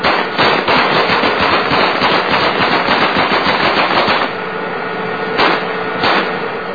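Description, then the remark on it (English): Sustained bursts of automatic gunfire from United States Army tankers shooting at a car taken from Iraqis caught stealing wood, rapid and loud, crackling in dense overlapping rattles for several seconds, then easing into a lower steady rumble broken by a couple of sharp bursts. “Now they shoot it.”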